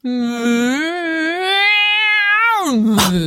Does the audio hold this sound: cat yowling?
yes